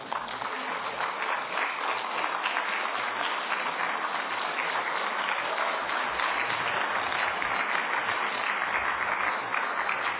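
An audience claps continuously for about ten seconds, a dense, steady patter of many hands at an even loudness throughout, with no voices rising above it.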